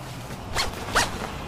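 Two quick zipper pulls, a short rasping zip followed by a slightly louder one, as a man zips up his pants, with no talking.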